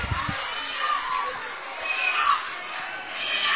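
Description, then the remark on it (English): The Clark Range basketball team bench cheers and shouts loudly and steadily throughout, a dense burst of excited noise celebrating a running jumper banked in off the glass in a game against Clay County. “The Clark Range bench erupts, applauding that bucket.”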